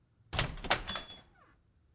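household object, door being opened

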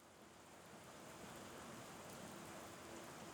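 nature, heavy downpour of rain

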